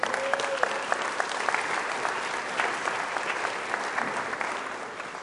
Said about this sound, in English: And I want to lift our elders up at this time. You can give them a round of applause if you want to.